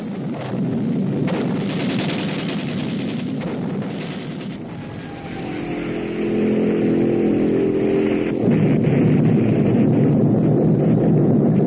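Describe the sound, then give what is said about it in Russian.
A continuous, loud rumble of an endless column of vehicles rolling through southern Berlin toward the front line, with a droning motor tone rising in the middle and no pause in the traffic noise. “Автомашины бесконечной вереницей направляются к линии фронта.”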